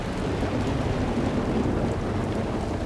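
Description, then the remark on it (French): A heavy, steady monsoon downpour fills the space with dense, unbroken hiss, carried over a deep low rumble like thunder; no voices, just constant loud rain throughout. “Bah non, il y a la mousson, il va pleuvoir à torrent pendant près de 4 mois, ce qui rend toute recherche impossible.”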